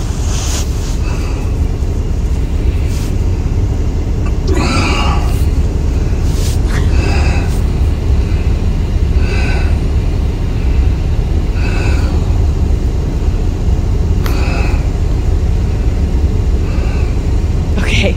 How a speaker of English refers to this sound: And she's like, listen to this poor man struggle with my bags. This is the audio of him after he got the bags into the car and it took him 10 minutes.